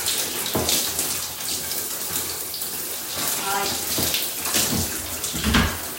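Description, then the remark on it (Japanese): Water runs steadily from a tap while a bath sponge is squeezed and rinsed beneath it to wash out leftover soap foam after scrubbing the body, with splashy bursts and squelches; a voice briefly speaks. “で、今スポンジ、泡が残っているので、ちゃんと泡切れをして、泡切れさせます。”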